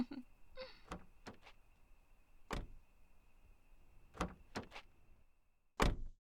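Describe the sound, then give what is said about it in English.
A car door opens with a series of latch clicks and soft thuds as someone gets into the car, then swings shut with one loud slam at the end. A faint steady tone hums beneath it. “Now swing your butt into the whip. Yes, dork, I mean my car.”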